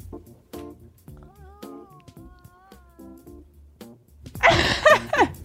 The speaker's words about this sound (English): Sounds like there was a cat coming out of my headphones.